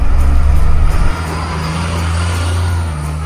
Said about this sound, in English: I can't believe I'm running from the cops again in this school bus. Time to go hide it in the woods.